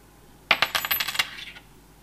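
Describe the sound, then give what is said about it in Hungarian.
A coin, placed behind the support point of a balanced setup in a demonstration, drops onto a hard surface and rattles, a quick burst of bright metallic clinks that slows and fades over about a second, fairly clear with no voices. “az egész rendszernek körülbelül itt van az alátámasztási pontja, az alátámasztási pont mögött helyezkedik el a pénzérme, próbálkozunk még egyel.”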